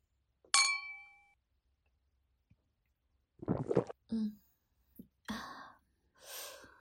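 Two glasses of wine clink once in a toast, giving a bright ring that fades over about a second, followed after a pause by soft breathy sounds and quiet sips.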